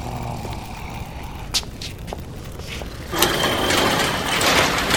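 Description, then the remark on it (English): A garage door opens: a few mechanical clicks and clunks, then a steady rattling, rolling rumble that builds and continues to the end, moderately loud. “I walked to the garage and opened it.”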